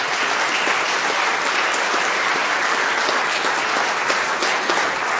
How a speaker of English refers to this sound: On behalf of Senator Hunhoff and the entire Senate, the SDAHO members, South Dakota Association of Healthcare Organizations, representatives here, if you would stand and receive our applause.